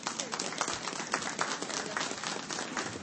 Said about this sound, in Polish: Także brawa dla niej.